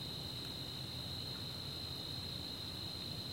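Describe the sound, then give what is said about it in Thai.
Crickets chirp at night in a grassy forest under moonlight with a gentle breeze, an unbroken, high-pitched trill that holds steady throughout, over a soft low rumble of background noise, with no voices. “นี่คืนนี้เรานั่งอยู่ในป่าป่าหญ้าพระจันทร์ก็ส่องลมก็พัดมาเบาๆก็สบายจิงหรีก็ร้องอย่างนั้น”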